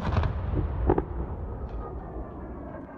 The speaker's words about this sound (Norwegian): Behind, there's a lot of bombing are still going on.